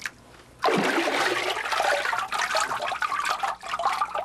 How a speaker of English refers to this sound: Before I form a sheet, I have to charge the vat by stirring the fibers in the water.